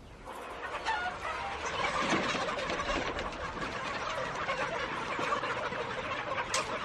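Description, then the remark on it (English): A dense, continuous chorus of many chickens clucking and chattering together inside a dark chicken house where the birds never see sunlight, steady with no one speaking. “These chickens never see sunlight. They're pretty much in the dark all the time.”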